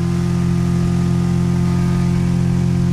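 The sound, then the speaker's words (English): The small outboard motor of a 12-foot boat on a river drones steadily, a loud, even mechanical hum with strong low tones and no breaks, running continuously with no voices. “She takes me out in a 12-foot boat to show me the source of her anger.”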